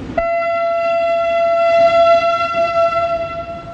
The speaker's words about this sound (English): The steel mill is still in operation, but Lenin's nowhere to be seen. A train carrying cylinders of sheet metal chugs for miles around the plant's perimeter.